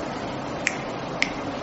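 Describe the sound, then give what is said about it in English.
Two crisp finger snaps, about half a second apart, pop out over a steady background hiss, snapped to mimic falling raindrops. No one speaks. “Who can snap? Rain, rain, rain, rain.”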